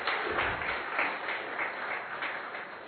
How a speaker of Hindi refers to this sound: जोरदार तालियां भाई साहब के लिए एक बार फिर से।